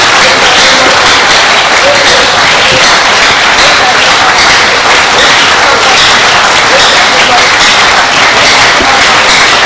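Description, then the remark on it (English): An audience claps hands while praying to rebuke a woman's hypertension in the name of Jesus: a loud, sustained burst of dense, rapid applause that fills the whole stretch without letting up, with voices faintly mixed into the noise. “As we clap our hands, we rebuke your sickness in the name of Jesus.”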